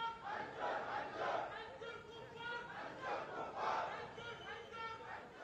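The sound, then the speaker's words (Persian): A large crowd of Muslim protesters in Malaysia shouts angry chants in unison against insults to the Prophet of Islam by two officials of India's ruling party, loud rhythmic bursts of massed voices rising and falling in waves every second or so, with a dense roar of voices underneath. “مسلمانان خشمگین مالزی هم با پیوستن به دامنه گسترده اعتراضات منطقه‌ای و بین‌المللی علیه هتک حرمت دو تن از مقامات حزب حاکم هند به ساحت پیامبر گرامی اسلام فریاد خشم و انزجار سر دادند.”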